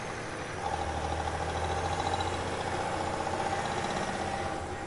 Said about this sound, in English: There was something off about that truck. As I was about to turn down another corner, I heard the unmistakable sound of an engine revving up behind me.